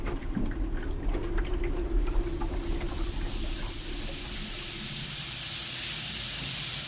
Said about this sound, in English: Well, it's a windy, rainy night at Cabbage Key. Let's see if I can capture some of that. By 11 o'clock, I've finally had enough recording and let the waves lapping against the hull lull me to sleep.